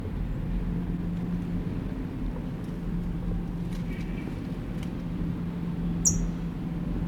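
A towhee gives a single short, high-pitched alarm call near the end, sounding over a steady low droning hum that runs throughout.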